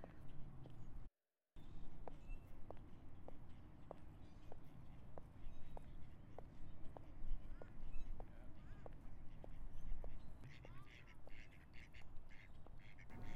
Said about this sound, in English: There are the ducks. Some of them are waddling near me.